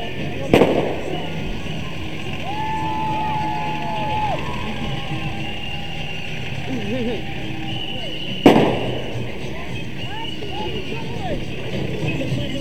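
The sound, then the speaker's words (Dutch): Two sharp firework bangs, one near the start and another about eight seconds later, ring out over a busy outdoor crowd with voices and chatter throughout. “En het nodige vuurwerk.”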